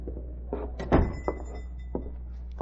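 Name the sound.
shop door opening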